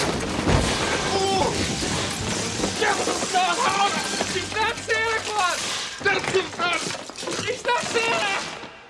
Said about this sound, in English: The floor manager arrives and gawks. He charges the Santa, and they both crash through the tables holding the models.